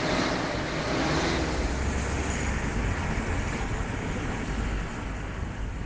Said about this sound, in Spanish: El viaje de Miguel continúa. Mientras su coche se adentra en la noche